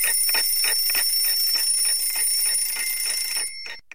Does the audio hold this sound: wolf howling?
no